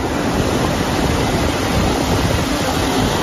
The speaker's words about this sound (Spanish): Así suena hoy el mar en el Cantábrico. Toda la costa de Euskadi y de Cantabria se mantiene en alerta por la borrasca Patricia. Las olas han alcanzado esta madrugada en Guipúzcoa los 7 metros de altura.